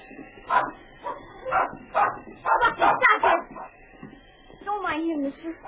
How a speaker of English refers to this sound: he was greeted by a sudden series of barks from inside the cabin